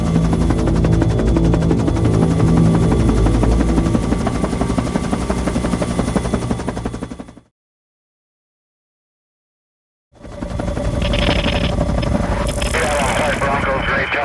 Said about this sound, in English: All of a sudden we hear this helicopter overhead and it keeps circling around.